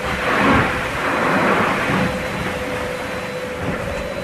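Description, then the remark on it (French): Loud, continuous roar of gale-force wind, gusting over 40 knots, buffeting the sailboat Linked Out, sailed by Thomas Ruyan, off Cape Finisterre in a depression, with rumbling gusts and the churn of choppy swell, plus a faint steady whine from the rigging; no voices. “Une houle hachée et de fortes rafales de vent à plus de 40 nœuds.”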